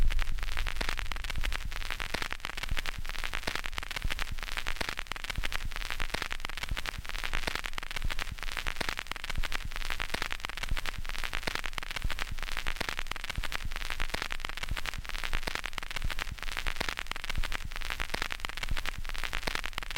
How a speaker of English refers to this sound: This tiny record is crackling just for you, like the fire in your heart. So let's take a moment, take pause, to remember things that are important to you all together now. You ready? We're gonna listen to a little bit of crackle together.